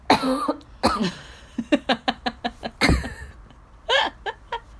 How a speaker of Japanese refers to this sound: ちょっと咳出るわ。